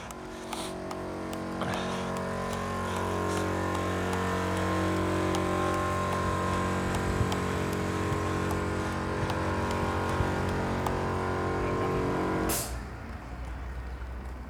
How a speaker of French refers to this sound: Tiens, le monsieur qui répare sa voiture vient de mettre en route un compresseur, je pense. Peut-être qu'il a besoin de nettoyer un peu le moteur, je sais pas trop.